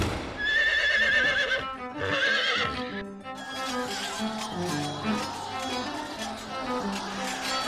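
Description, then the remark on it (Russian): Horses pulling a carriage through a dark forest neigh loudly in two whinnies with wavering high calls as robbers seize them by the bridles, then hooves clip-clop steadily amid a busy clatter, continuous to the end. “Схватив лошадей под уздцы, разбойники остановили ее”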